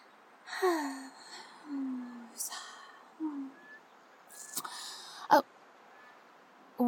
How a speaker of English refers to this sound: Sorry, I'm just gonna do my breathing exercises for a minute because it's what my therapist tells me that I should do when I get too overwhelmed and...